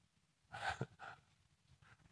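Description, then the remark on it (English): A short coughing fit: two harsh, breathy bursts close together, then a faint third a moment later, with no talking around them. “Having a coughing fit.”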